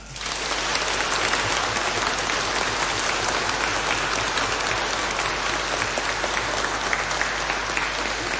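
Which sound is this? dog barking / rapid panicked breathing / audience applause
audience applause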